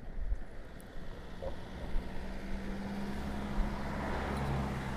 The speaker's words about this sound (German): Da kommen jetzt immer mehr Autos, habe ich so den Eindruck. Aber das könnte am Feierabendverkehr der Leipziger Buchmesse liegen. Der Leipziger Berufsverkehr, ein Lieferwagen.